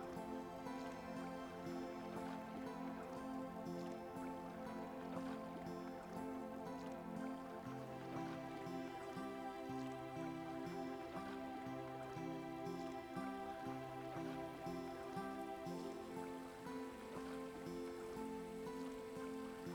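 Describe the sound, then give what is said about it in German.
Gentle, continuous splashing of a nearby fountain, a soft steady trickle with no pauses, blended with sustained calm tonal notes that slowly shift underneath. “Du hörst nur das leichte Plätschern eines Brunnens in der Nähe.”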